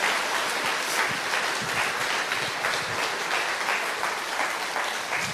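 An audience applauds to give glory to God for the grace of salvation, many hands clapping in a dense, even roar that holds at a consistent loudness for several seconds, with no voices standing out above it.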